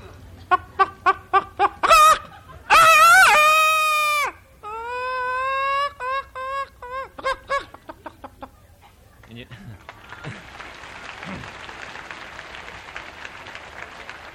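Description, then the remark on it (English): A man's voice imitates a chicken: a quick run of clucks, a loud drawn-out squawk, then more rapid clucking, followed by a burst of audience applause. “So I'm going to start off imitating the feathered side of the deal. Sure, you're acquainted with chickens, and I'll do quite a bit of this.”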